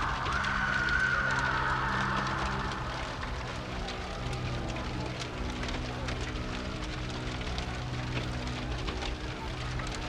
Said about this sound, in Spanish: Finalmente, solo quedó el sonido del crepitar del fuego en las cenizas de los acusados.